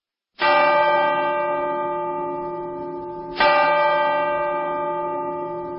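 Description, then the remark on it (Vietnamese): A clock outside strikes seven o'clock; two deep, ringing bell tones are heard about three seconds apart, each loud strike sustaining a long, slowly fading resonance with rich overtones. No voices are present. “Nghe đồng hồ ở ngoài gõ 7 giờ.”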